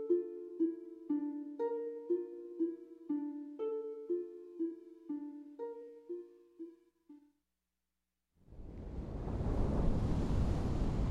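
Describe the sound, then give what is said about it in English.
A short melodic tune of plucked-sounding notes fades out, and after a brief silence a steady, loud rush of ocean waves and breeze rises and fills the rest, with no voices. “I can smell the lilacs, even over the ocean breeze.”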